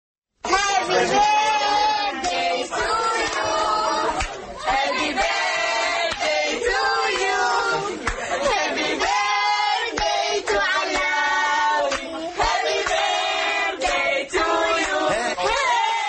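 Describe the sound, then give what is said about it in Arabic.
A group of family members sings a birthday song together at a child's birthday party in a modern restaurant in Baghdad, loud and steady throughout, with many voices blending into rhythmic, sustained phrases and brief dips between lines. “أغنية الميلاد هذه جمعت بعض العوائل في أحد مطاعم العاصمة الحديثة والتي بدأت تستقبل بكثرة احتفالات أعياد الميلاد للأطفال وللكبار أحيانا في مساءات عائلية حميمة.”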